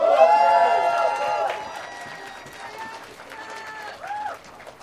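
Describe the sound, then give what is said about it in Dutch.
An audience claps for the technicians in a scattered, moderately loud burst, with a voice and some crowd noise rising over the applause before it thins out. “Een applaus voor technici hier.”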